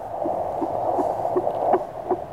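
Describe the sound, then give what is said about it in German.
A fetal heartbeat through a small handheld Doppler device held on the mother's belly: fast, steady whooshing thumps, about six beats in quick succession, over a constant electronic hum, with no voices. “Und ob sie jetzt wohl durch die Bauchdecke ihrem eigenen Herzschlag lauscht.”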